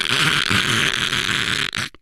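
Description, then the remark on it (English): A voice imitates sleep apnea snoring: one sustained, rattling, gurgling snort lasting about two seconds, harsh and fairly loud, with a choppy flutter underneath before it cuts off abruptly. “And sleep apnea snoring noise, it can sound quite unique.”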